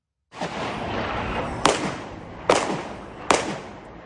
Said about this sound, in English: Eyewitness video shows one of the gunmen wearing a brown backpack exchanging gunfire with police. One suspect was killed in the shootout and two others wounded.